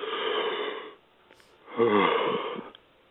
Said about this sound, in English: Do a yawn. Feel how that relaxes your mind, brings you into the present moment.